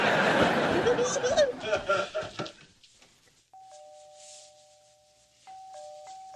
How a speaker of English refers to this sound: Oh, I can't concentrate with that doorbell.